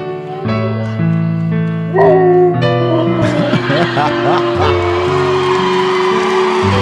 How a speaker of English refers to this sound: A singing dog named Oscar doing the classics. Big dog. Lab. Yellow lab.